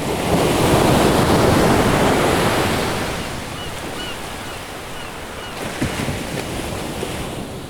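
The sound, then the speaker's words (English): Waves crash onto a beach in a loud, rushing surge that slowly recedes into a softer hiss of surf, with some wind noise and no voices. “The crashing of waves on a beach.”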